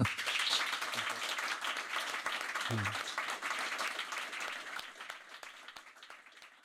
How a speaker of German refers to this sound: Und bevor wir uns jetzt die Füße vertreten, bitte ich um einen großen Applaus für meinen Gast